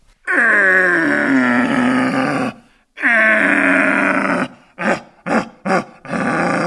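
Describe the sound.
Two long, deep, harmonically rich roars imitating a red deer stag's rutting call, made with a hunting call device used to lure stags, followed by a quick series of short grunting bursts, loud with no talking.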